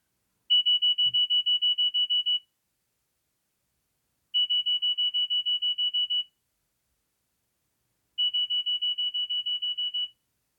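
A phone alarm clock beeps with the beep-beep of old Nokia phones without a touchscreen: three bursts of rapid, evenly spaced high-pitched beeps, each lasting about two seconds, separated by short pauses. It is clear, with no talking.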